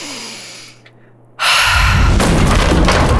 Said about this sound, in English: The force of Tua's breath blew the door open wide.